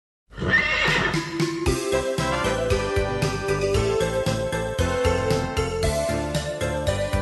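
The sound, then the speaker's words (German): A horse whinnies loudly at the start, then trotting horses make a steady rhythmic clatter of hooves with a bright jingling layered over it, full throughout, with no talking. “Hufe klappern, Pferde traben, springen übern Wassergraben, über Stock und über Stein.”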